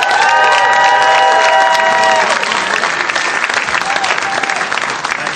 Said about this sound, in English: Do you guys mind clapping one more time for Nate and Emily?